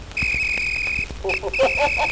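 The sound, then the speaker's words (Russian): A whistle is blown: one long, steady shrill blast lasting about a second, then a quick run of shorter, wavering whistle notes, loud and clear with no talking. “И вот пред вами тот исторический свисток.”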